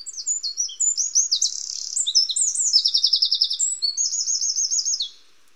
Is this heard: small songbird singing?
yes